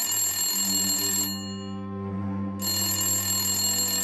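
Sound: phone ringing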